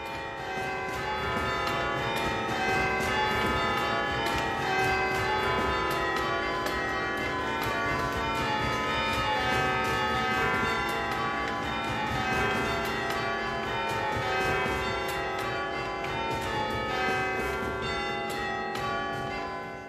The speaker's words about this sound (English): The very beautiful bells of St Nicholas Church as heard on The Leap of Faith